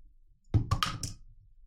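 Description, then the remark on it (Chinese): A thrown high-heeled shoe, tossed for a dog to fetch, hits the floor with a sharp clatter, then bounces and knocks a few more times in quick succession before settling into quiet. “主人把高跟鞋丢出去，你要快速跑过去，用嘴把鞋子给主人叼回来，并且帮主人穿好。听懂了吗？好，准备好，主人要丢了。”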